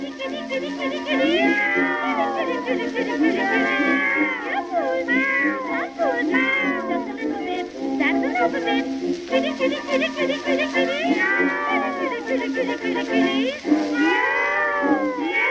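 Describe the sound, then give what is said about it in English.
A voice imitates cats meowing, calling cats, with a long run of loud, sliding, wavering meows one after another, continuous over a steady background of other sound. “For you can hear her calling cats at any time of night.”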